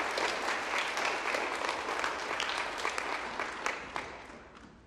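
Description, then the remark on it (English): A crowd claps steadily in sustained applause for a group of kids and the hard work they completed, a dense wash of many hands with scattered sharper claps, holding fairly loud before gradually thinning toward the end. “All right, let's give one more round of applause for these kids and all the hard work they completed.”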